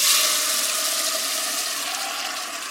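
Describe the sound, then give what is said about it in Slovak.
Tomatoes sizzle steadily in hot olive oil in a pot, being stirred and salted as the base for a tomato sauce, a bright, continuous crackling hiss that eases off slightly over a few seconds, with no talking. “Naše paradajky sú na rozpálenom oleji, trošku ich pomiešame, osolíme a necháme variť.”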